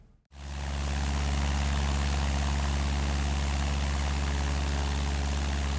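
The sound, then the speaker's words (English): A small propeller plane's engine drones steadily and loudly in flight over Yellowstone National Park, flown by its owner with no co-pilot while surveying the land, starting abruptly and holding a constant low, throbbing hum with broad rushing noise throughout. No one speaks. “You fly this plane yourself?”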